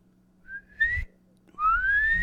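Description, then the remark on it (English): A person whistles two rising, sliding notes, trying to imitate their mother's calling whistle, the second note longer and louder, with breathy air noise underneath. “What does it sound like? I can't mimic my mom's whistle.”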